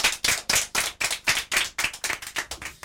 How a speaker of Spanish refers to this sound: También para ella vaya este aplauso de todos los demás aquí presentes.